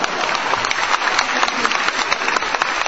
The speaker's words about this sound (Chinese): 既然您都这么鼓掌了，咱们听听吧。